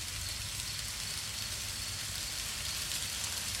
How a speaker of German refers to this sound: das Geräusch, wenn der Regen draußen prasselt